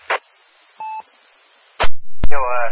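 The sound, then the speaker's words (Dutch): A short burst of noise, then a single clean two-tone telephone beep, followed by clicks as the line connects and a muffled voice starts over the phone. “Daarvoor gaan we eerst even naar het telefoon.”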